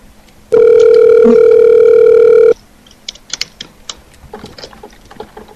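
A single steady ringback tone from a phone line sounds for about two seconds, loud and unbroken, then stops, leaving scattered faint clicks and handling noises; the call, placed around midnight, goes unanswered.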